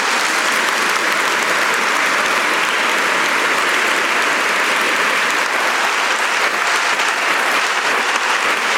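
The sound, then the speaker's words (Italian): A large audience claps steadily in sustained, dense, loud applause for the children and young people of the pastoral community, the clapping holding an even intensity throughout without any voices standing out. “Mi hanno detto così, un applauso.”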